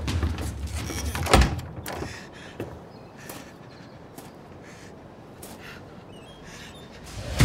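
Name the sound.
door opening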